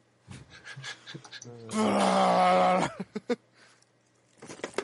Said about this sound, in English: That's me hitting like 20 bottles of water out of my trash can. It's not the same as cans. Yeah, it's not quite as good.